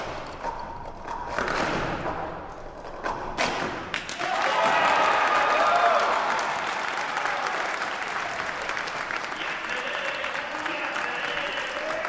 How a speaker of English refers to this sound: That day at the St. Michael Center, the applause told it all.